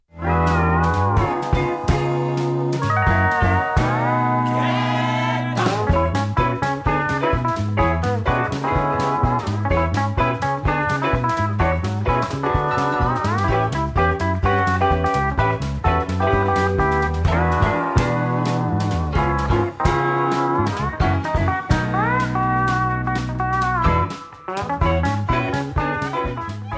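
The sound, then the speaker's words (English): Instrumental pedal steel guitar music from a newly released album of pedal steel instrumentals, with bright sliding, gliding notes over a steady plucked rhythm and bass, loud and continuous throughout with no voices. “It's a whole album of pedal steel instrumental.”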